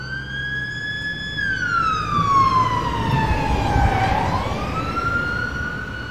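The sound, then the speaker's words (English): An ambulance siren wails as the ambulance rushes a family to the hospital, a strong, sustained tone that sweeps slowly down and back up in pitch amid a low rumble of road traffic. “As the ambulance rushed the O'Briens to the hospital”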